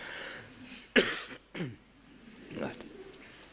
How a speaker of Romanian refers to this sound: Tușesc.